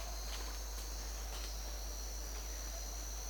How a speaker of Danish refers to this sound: Cikaden hænger på træet. Den venter.